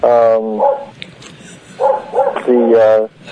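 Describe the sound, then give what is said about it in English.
A dog outside barks several times in short, harmonic yelps, a couple of them drawn out into whiny tones, loud, with brief pauses between bursts. “Now, sorry, there's a dog outside.”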